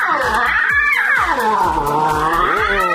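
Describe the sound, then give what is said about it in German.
Three lion cubs, born in late August at the Thüringer Zoopark in Erfurt, call in loud, continuous, wavering cries, rising and falling in pitch like drawn-out meows, with low thumping pulses underneath. “So klingen Löwenbabys.”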